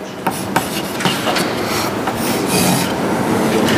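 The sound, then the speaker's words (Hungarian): An asynchronous motor fed from three-phase power drives the shaft of a DC machine run as a generator, giving a steady, rough mechanical whir with a raspy hiss and a few sharp clicks early on, growing slightly louder toward the end, with no voices. “És ugye mivel ez generátor, ennek a tengelyét meg kell hajtani valamivel, mondjuk egy aszinkron motorral, amit három fázisról táplálok.”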